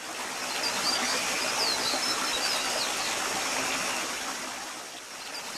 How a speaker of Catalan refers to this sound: En un poblet de la Vallalta baixava un rierol pel mig de la muntanya i recollia les netes i fresques aigües del Mont Negre. Serpentejant rierol avall, per les roques anava lliscant.